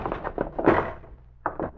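door being kicked open

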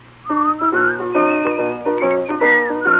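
person whistling a tune

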